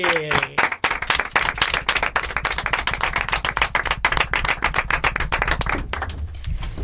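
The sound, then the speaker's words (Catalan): Steady audience applause welcoming two guests onto the stage, a dense continuous patter of many hands clapping at even loudness for several seconds, with a brief voice at the start and fading slightly toward the end. “Vinga, continuem aquest aplaudiment”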